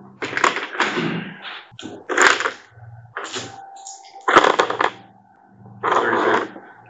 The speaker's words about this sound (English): All right, roll percentile dice.